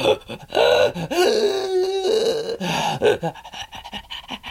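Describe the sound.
Heavy, strained gasping breaths follow one another closely, with drawn-out voiced moans between them, fairly loud, like someone struggling for air almost to the point of choking, demonstrating the breathing used in a performance piece.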